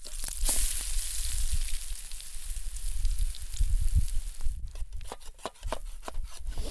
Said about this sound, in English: I can hear him making pancakes.